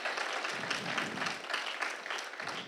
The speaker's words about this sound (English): Can I give a hand clap for the people who are making that decision today?